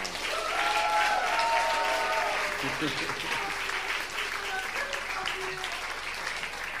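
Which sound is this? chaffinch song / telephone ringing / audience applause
audience applause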